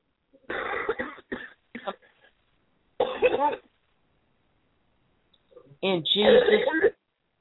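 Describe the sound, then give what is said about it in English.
Several people at a deliverance prayer cough in ragged, overlapping bursts, one long fit at the start, a couple of short hacks, another cough, then a final loud, throaty cough with some throat clearing mixed in. “Cough them out.”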